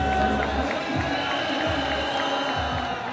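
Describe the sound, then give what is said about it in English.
A large crowd of supporters sings and chants together outside the headquarters of presidential candidate Moncef Marzouki in a steady, dense wash of voices, with soft low thumps recurring at a slow, regular beat beneath the sustained sound. “The crowd also sang and chanted, but the mood was somber.”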